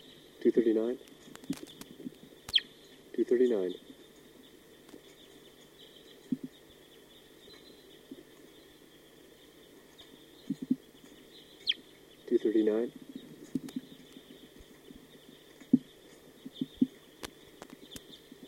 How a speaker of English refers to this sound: The recording, here comes a wild bird. They're coming down. That was 239. Stop. That's a recording. The other birds are approaching.